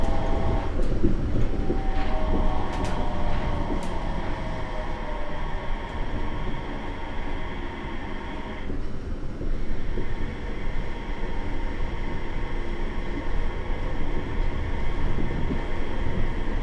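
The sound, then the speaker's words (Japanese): Steady rumble of a Yurikamome automated transit train in motion approaching Shinbashi, the last stop, a dense low roar with faint humming tones and a few brief clicks, continuous for the whole stretch with no voices. “Thank you for riding the Yurikamome.”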